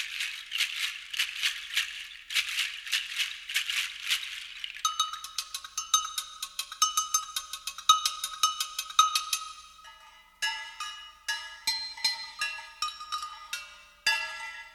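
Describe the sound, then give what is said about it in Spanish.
Jingle bells shake in quick rhythmic bursts, then ringing metal bells and cowbells are struck repeatedly in a steady pattern, their bright, high tones clanging one after another with no talking. “Y otros que suenan al chocar entre sí o se golpean con un tubo, como los cascabeles, cencerros o campanas.”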